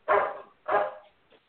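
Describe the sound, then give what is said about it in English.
A dog gives two sharp, loud barks about half a second apart, followed by a brief faint yip, with no talking over it. “See, even the dog agrees.”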